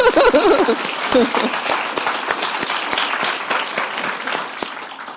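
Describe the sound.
An audience claps steadily throughout, a dense patter of many hands that tapers slightly toward the end, with a voice briefly heard over it at the start.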